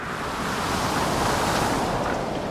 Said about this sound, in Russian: Когда она снова подняла голову, гул прибоя слышался уже позади.